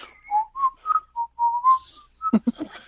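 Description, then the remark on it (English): Someone whistles a short, bouncy melody of about eight clear notes, fairly loud, before a brief burst of rough vocal noise cuts in at the very end. “Can kobolds whistle?”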